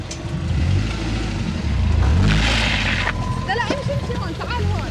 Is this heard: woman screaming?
no